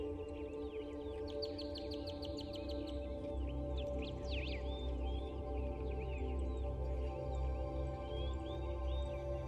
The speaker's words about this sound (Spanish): Algunas especies de aves revolotean entre árboles cercanos. Son aves exóticas, de colores muy vivos.